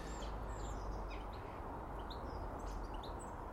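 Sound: small bird chirping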